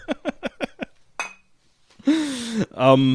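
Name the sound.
glasses clinking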